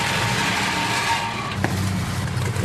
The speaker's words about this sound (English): But as I said, there are two things slowing Akureyri's progress towards that goal. The first was planes, the second, cars. Gas and diesel guzzling cars.